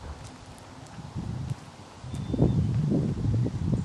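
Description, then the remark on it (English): Footsteps crunch and crackle through dry autumn leaves and branches on a path in an uneven walking rhythm, growing louder and busier in the second half, with soft rustling and a low background hum. “Some voices, people in the very far distance, and again you will hear my footsteps on the dry leaves and branches.”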